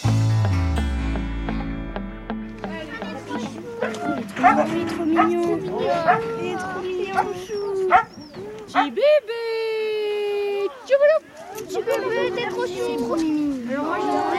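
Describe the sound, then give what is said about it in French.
A pack of sled dogs barks and yips excitedly in a dense, overlapping chorus, loud, with a drawn-out whining howl rising midway and a low rumble at the start. “Et une fois qu'on a sorti les chiens, dans le calme, vous pourrez aller faire connaissance avec eux.”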